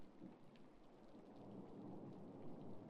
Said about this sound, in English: I don't like loud storms.